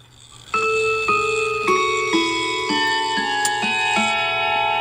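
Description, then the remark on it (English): A mantel clock chimes the St. Michael's melody on spring coil gongs: about eight struck notes at a steady, unhurried pace, each ringing on and overlapping the next, fairly loud over a faint low hum, with the works of the clock's chimes audibly engaging. “It's a mantle gong sound, like one of those spring coil type chimes, and it's very good.”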